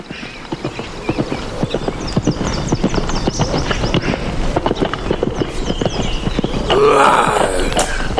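horse hooves clip-clopping

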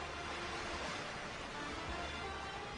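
sea waves crashing

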